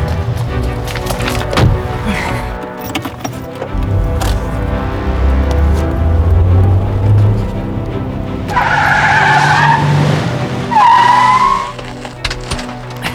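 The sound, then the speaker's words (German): A car engine rumbles as it approaches, then tires squeal in two sharp, drawn-out skids near the end, loud, with clattering noise in the background and no talking. “Da vorne steht mein Wagen. Ich muss ihr helfen.”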